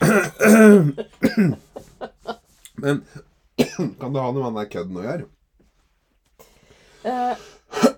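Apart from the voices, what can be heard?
coughing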